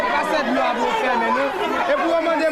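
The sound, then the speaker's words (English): An angry crowd outside the office of the local aid organization in charge of water distribution, many voices talking over one another in a steady, loud chatter, with no single speaker standing out and a restless, agitated edge throughout. “An angry crowd stands outside the office of the local aid organization in charge of water distribution.”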